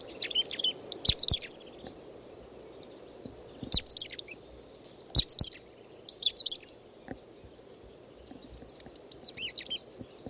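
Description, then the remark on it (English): Calls of a lone foraging chickadee giving three calls: several short bursts of high, thin chirps and buzzy notes spaced a second or two apart, over a steady low rumble, with fainter calls trailing off at the end. “This chickadee is foraging. I don't see any others nearby. It's giving 3 calls.”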